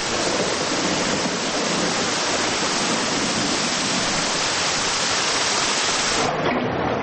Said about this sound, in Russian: От макро к микро, ливень, как мы его слышим. А теперь крупнее, по траве хлещет дождь.